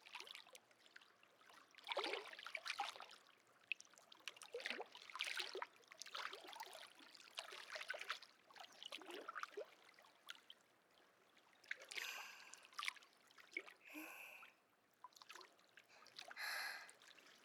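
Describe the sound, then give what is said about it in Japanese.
Gentle water waves lap and slosh in soft, irregular swells, quieter and softer than waves at a beach shoreline, more like water being stirred, with a few brighter splashes toward the end and no voices. “これは波の音ですね。”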